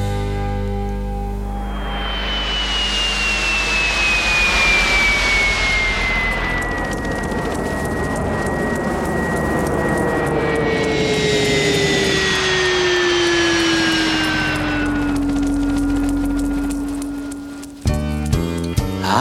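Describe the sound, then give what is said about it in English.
A loud jet plane roars past for about seventeen seconds, its high whining engine tone sliding steadily downward, before the roar cuts off and a short burst of rapid rhythmic pulses begins. “I was a flying machine, a jet plane was I.”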